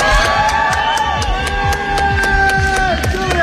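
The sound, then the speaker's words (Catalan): A loud, dense crowd of family, supporters and media shouting and cheering at Canberra airport in Australia as a private plane arrives, with bursts of clapping and overlapping excited voices, steady and continuous throughout. “Hi ha hagut crits i aplaudiments, com sentim, a l'aeroport de Canberra, on ha arribat en un avió privat i on l'ha rebut família, seguidors i desenes de mitjans”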